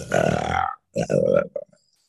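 tiger growl

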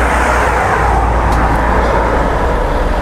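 cars driving past

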